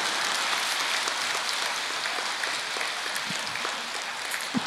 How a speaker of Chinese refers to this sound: 所以人现在就是太急，你看急得来鼓掌都一个人先出来了。